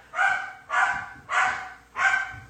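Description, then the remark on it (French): A dog barks four times in a steady, evenly spaced rhythm, each bark fairly loud and clear with no one speaking. “Je sais pas si vous entendez les chiens.”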